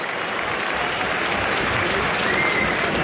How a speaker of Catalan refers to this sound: No xiuleu, home. Mitchell demana que s'aplaudeixi a Abel. No, i majoritàriament hi ha aplaudiments.